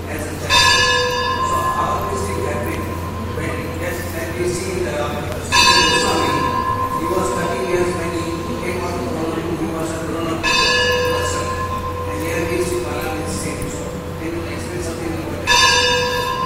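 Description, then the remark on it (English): A church bell tolls slowly during a question session at a talk, four resonant strikes spaced about five seconds apart, each ringing out and lingering, with faint voices and room noise underneath. “I couldn't hear completely full question because of the bell.”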